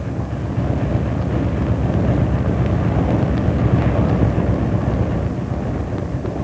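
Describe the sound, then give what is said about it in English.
The engines of the River Giant, a river towboat with 10 rudders and 4 propellers pushing 1.5 acres of cargo, rumble steadily as it turns around to head back upriver, a loud, continuous low drone with a churning, rough texture and no pauses or talk. “That reminds me, better turn the River Giant around and head back upriver.”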